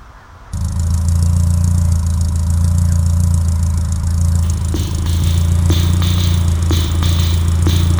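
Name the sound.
car engine running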